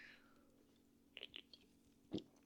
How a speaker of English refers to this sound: Sorry, I need to take another sip from my Red Bull.